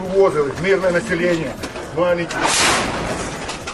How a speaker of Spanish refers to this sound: Es la lluvia de cascotes que deja la explosión de un mortero que ha caído en plena calle mientras la atravesaban un grupo de civiles en Irpin, a unos 30 kilómetros de Kiev, de la capital.